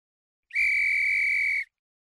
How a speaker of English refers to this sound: The sound of the whistle had so fascinated him that he could not help trying it once more, this time more boldly.